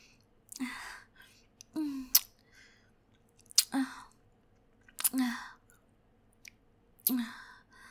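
kissing

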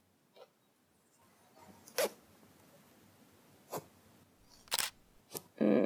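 zipper being pulled down

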